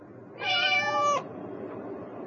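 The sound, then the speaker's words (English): A single clear cat meow, fairly loud, drawn out for nearly a second before fading into a quiet background hiss. “Where's the orange cat?”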